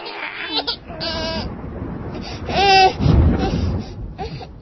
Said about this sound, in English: As you hear rain, thunder, and a crying infant in the background.